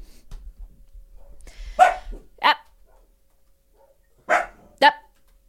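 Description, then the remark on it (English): A dog barks at dogs outside, four sharp woofs arriving in two quick pairs separated by a short pause, with near silence between them. “They're talking to dogs outside.”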